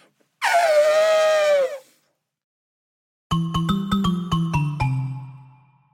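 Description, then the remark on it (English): A loud, harsh leopard snarl lasts just over a second, its pitch sagging slightly, followed after a pause by a bright, rhythmic run of chiming musical notes. “I hear a leopard snaring in my ear.”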